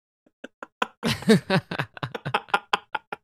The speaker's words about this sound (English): Uh-oh, that door just opened.